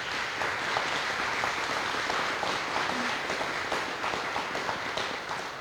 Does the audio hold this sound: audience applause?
yes